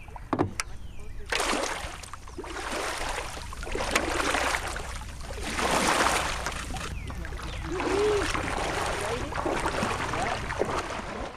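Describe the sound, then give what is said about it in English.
A newly built kayak on its first float, paddled on a river: steady, rhythmic paddle strokes roughly every two seconds, each a rushing swish of water, with gentle splashes and trickles between strokes. “Hey, it floats.”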